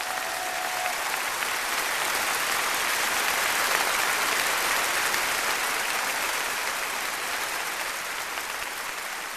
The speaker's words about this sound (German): Plötzlich begannen die Zuschauer zu applaudieren.